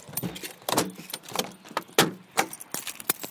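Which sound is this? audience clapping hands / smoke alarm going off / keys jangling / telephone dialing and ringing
keys jangling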